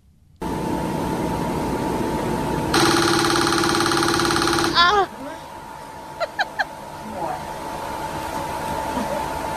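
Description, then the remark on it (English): A TMS treatment machine, during a patient's final treatment session, fires a fast, buzzing train of loud clicking pulses for about two seconds over a steady whooshing hum, followed by a few brief, sharp taps and chirps. “And so here's what it sounds like to get the TMS.”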